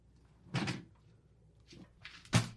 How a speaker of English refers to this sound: He didn't leave. He's just grabbing something off the like little hanger on his door. It's a hat. He just grabbed a hat off the little hanger on his door.